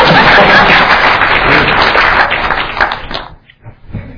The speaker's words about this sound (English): Okay, thank you very much. A round of applause for my assistant.